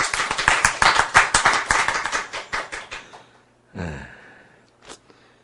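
An audience breaks into a burst of quick, crisp applause that thins out and fades after about three seconds, followed by a brief breathy sound and a faint click.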